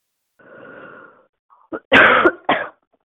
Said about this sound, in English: Someone's coughing into their phone.